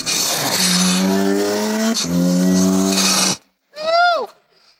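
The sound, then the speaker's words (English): A sports car's engine roars loudly at full throttle, its pitch climbing through a quick gear change, then cuts off abruptly before one short revving burst that sweeps downward. “But once you get up there, once you go foot to the floor, the personality completely changes.”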